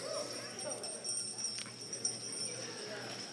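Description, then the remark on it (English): A small jingle bell shaken lightly, giving a continuous high, bright metallic shimmer with a few sharper jingles; fairly quiet, with faint low rumbling underneath. “It's a little bell. It's a little jingle bell.”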